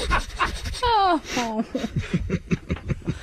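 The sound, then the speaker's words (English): A person sniffs another person like a dog, making quick, rhythmic dog-like sniffing and panting noises, a rapid series of short breathy bursts following a voiced exclamation, with some laughter mixed in. “Sniff him like a dog.”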